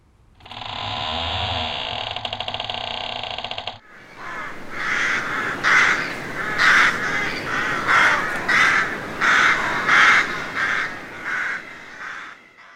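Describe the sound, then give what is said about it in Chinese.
A steady mechanical whirring runs for a few seconds, then cuts off as about a dozen golden crows fly in through a suddenly opened door and break into loud, overlapping caws repeating in a rough rhythm until the end. “大门突然间打开咗，飞嚟咗十几只金乌鸦。”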